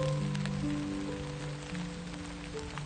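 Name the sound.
pouring rain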